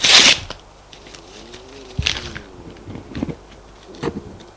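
A sheet of paper that has just been written on is ripped into four pieces in four quick, rasping tears, a sharp loud one first and then three softer rips spaced out over a quiet background.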